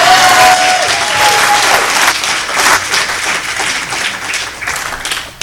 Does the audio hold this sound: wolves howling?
no